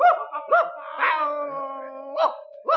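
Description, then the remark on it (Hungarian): A dog chasing a rooster in a garden gives several sharp, yelping barks with a long, wavering howl drawn out between them, fairly loud, with no one talking. “Jaj, egy nős kutya!”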